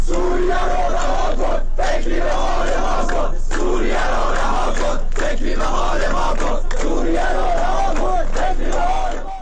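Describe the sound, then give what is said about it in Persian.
A large crowd of protesters in Iran chants slogans in unison, including "Death to high prices", "Death to Raisi" and "Death to Khamenei", loud and sustained, with short rhythmic pauses between repeated phrases roughly every one and a half seconds. “در ویدیوهایی که در شبکه‌های اجتماعی منتشر شده، معترضان از جمله شعار مرگ بر گرانی، مرگ بر رئیسی و مرگ بر خامنه‌ای سر دادند.”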